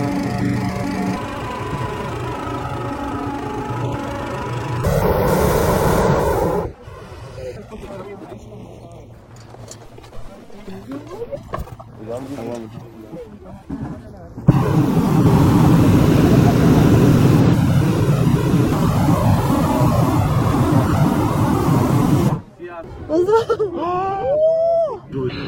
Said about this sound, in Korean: 지금 이 시끄러운 소리는 풍선에 바람을 넣는 소리입니다.